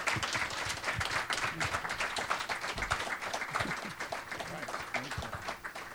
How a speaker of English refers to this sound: And once again, from the audience, a good applause for our panel tonight, which has been excellent.